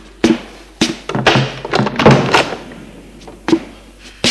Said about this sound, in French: Et va ouvrir. La porte n'a pas de verrou.